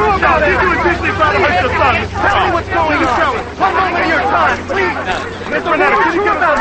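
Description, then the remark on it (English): A crush of reporters at a car outside a courthouse chatter at once in a dense, continuous babble, with a low steady engine-like hum rumbling underneath throughout. “They walk past the crush of reporters toward the courthouse.”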